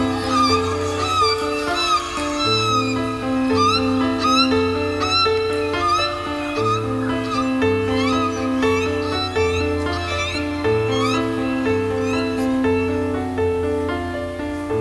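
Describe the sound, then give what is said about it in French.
Seagulls cry again and again, high wailing calls that rise and fall, layered over a steady bed of sustained low tones that runs the whole length without pause. “S'il y a des mouettes, la mer n'est pas loin.”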